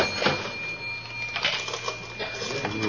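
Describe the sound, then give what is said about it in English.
A cash register in a store being opened: several mechanical clacks and rattling bursts spread unevenly over a few seconds, moderately loud, over a steady low electrical hum with no one talking. “Come on, Kramer, let's go through the cash register.”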